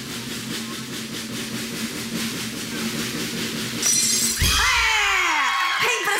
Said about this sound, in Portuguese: Ai, ai, ai. Eu quero que você quebre esse copo com a força da virilha.